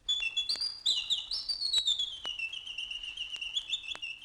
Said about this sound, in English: And everywhere except in the garden of the selfish giant, the birds sang.